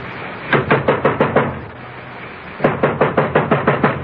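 Two quick bursts of firm knocking on a wooden door, each about six or seven raps in a steady rhythm, separated by a brief pause, with no voices.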